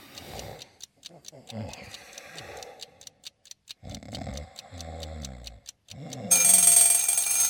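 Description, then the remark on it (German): A mechanical clock ticks steadily under a man's low, drowsy speech as he goes to bed, then his bell alarm clock bursts into continuous metallic ringing at the end, shortly before 7 in the morning. “Hey, was rasselt da so? Ach ja, mein Wecker.”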